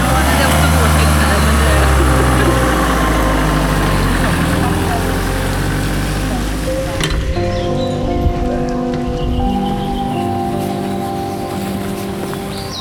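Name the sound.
van engine idling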